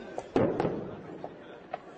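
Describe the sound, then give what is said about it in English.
Truck-mounted artillery used by ISIS repeatedly firing into a Kurdish village just across the Syrian border from Turkey: a heavy boom with a rumbling tail, followed by several sharper, fainter cracks at irregular intervals over a low background rumble. “They watched this truck-mounted artillery repeatedly fire into a village. The sound hits seconds later.”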